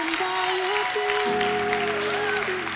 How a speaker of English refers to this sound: I want you to clap like your mother's coming up here.